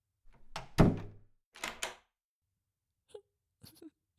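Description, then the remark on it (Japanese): The door of a small private room swings shut with a single solid thud, followed by a brief scraping shuffle and a few faint clicks in otherwise quiet surroundings. “個室、二人で入ると狭いけどさ、一応、扉は閉めておこうか。”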